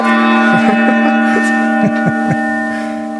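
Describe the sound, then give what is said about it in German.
A gong is struck several times in quick succession, its bright metallic ringing building up and sustaining loudly before slowly fading, with no voices present. “Oh, das hat einen Gong verdient.”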